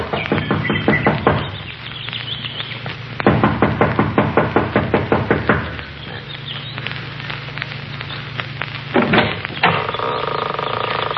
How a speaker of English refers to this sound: runs up the steps of the lodge to the front door. She knocks impatiently, looking about anxiously.